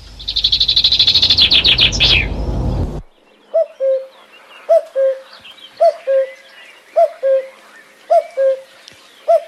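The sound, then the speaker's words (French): A bird sings its spring song: a loud, harsh, rapid chatter opens, then a steady series of mellow two-note calls repeats about six times at an even pace, clear. “C'est donc un oiseau au final prévoyant et très utile dont le chant printanier nous accompagnera tout le long de cette émission.”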